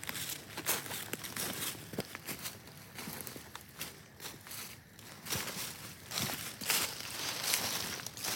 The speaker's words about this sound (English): So let me grab the paper towel.